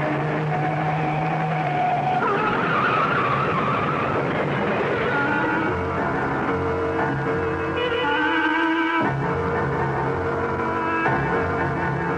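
Tires screech and skid for several seconds as a car swerves off the road to avoid a truck, with shifting squealing tones over a loud, continuous engine roar, intense, with no voices.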